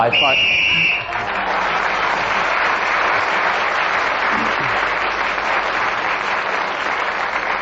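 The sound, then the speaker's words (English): A shrill whistle blast lasting about a second signals the end of a round, blown while Tim Rice is speaking so that he gains an extra point, then loud, steady applause takes over and continues to the end. “Whoever is speaking, when the whistle is blown, gains an extra point.”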